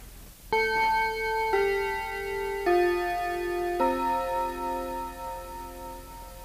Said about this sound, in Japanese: では続きまして、15分の時に鳴るチャイムの音です。